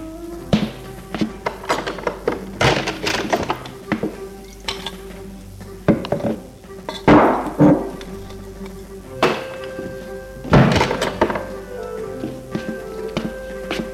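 A man takes a cognac bottle and a drinking glass from a sideboard: a series of clinks, knocks and light taps, some leaving a brief ringing tone, with quiet rustling between them.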